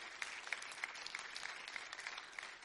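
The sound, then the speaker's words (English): A church audience claps hands together in a steady, dense wash of applause, giving praise to God, with a few sharper individual claps popping out at a roughly even rhythm throughout. “Let's clap our hands and give God praise for what he's going to do.”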